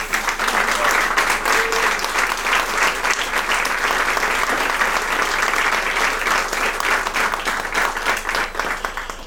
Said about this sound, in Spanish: Quiero pedir un aplauso